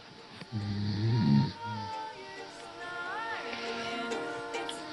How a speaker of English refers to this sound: It's about 3:30 a.m. so this is the peak snoring time. Usually I just lie awake here for hours listening to the free snoring show.